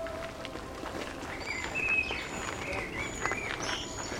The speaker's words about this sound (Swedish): Vi går längre in i grönskan och här hör vi ett läte som är nästan obligatoriskt för en sån här sommarkväll. Där sitter en koltrast, alldeles kolsvart som den är där. Och så sjunger den. Den sitter.